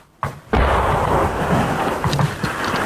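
Incoming artillery fire from Argentine batteries around Stanley during the fight for Port Stanley: a faint thud, then a loud, close blast that swells into a sustained rumbling roar lasting several seconds, with no voices.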